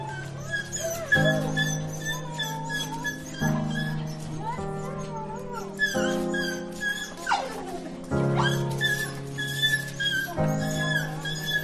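A dog whimpers and whines excitedly, its high-pitched cries rising and falling in quick, eager bursts with brief yips mixed in, nearly continuous, as it jumps around and licks its young owner, who has just come home through the door after a long absence during lockdown.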